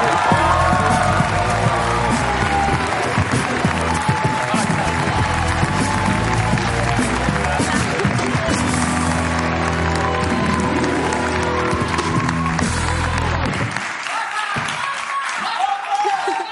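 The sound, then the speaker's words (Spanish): A large studio audience on the show La Resistencia applauds and cheers loudly and continuously for Irene Ferreiro and Alba Planas, there to present the second season of the series Scam, with lively band music playing underneath; the music cuts out near the end while the clapping carries on. “Un aplauso para Irene Ferreiro y Alba Planas.”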